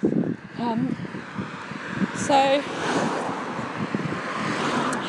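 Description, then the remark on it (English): Wind buffets the microphone on a windy, dry morning with a continuous rough, rumbling roar that persists throughout, while faint voices and brief tonal sounds come through underneath. “I thought I'd finish off painting the window, so it was also windy, sorry.”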